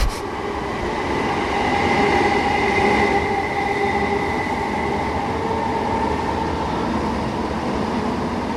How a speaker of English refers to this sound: Standing at the end of the bridge, That's about the best I can tell you, really. It's really thrilling. Fast train coming, by the sound of it. No, it's not, it's a slow train.